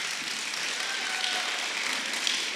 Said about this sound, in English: Let's give God an applause for them.